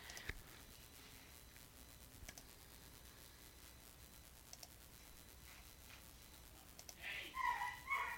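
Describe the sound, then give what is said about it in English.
A prairie dog named Poppy at the Metro Richmond Zoo gives a quick burst of shrill, chirping yips near the end, following several seconds of quiet outdoor ambience with faint scattered clicks. “Oh, there's a prairie dog.”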